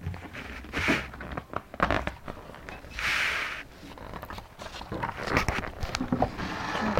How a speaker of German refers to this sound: Ja, darfst du einmal umblättern.